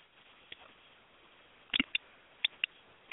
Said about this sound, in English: Okay, somebody has their computer or something clicking. You need to unmute people.